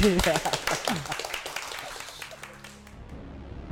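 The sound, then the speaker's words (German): Scattered hand clapping from a few people at the end of a Radio Tux show, a quick burst of uneven token claps that thins out and fades, with voices murmuring underneath. “Und wir können ja mal so Alibi klatschen, ja?”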